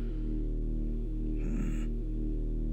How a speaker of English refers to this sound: Ooh, I like that noise. I hope that got caught on the mics and then it makes it in. What the? Yeah, you did this little grumpy thinking noise. Yeah, it was this like little like growl, and it was like that was fucking badass.